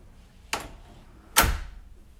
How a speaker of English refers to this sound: Could you close the door behind you?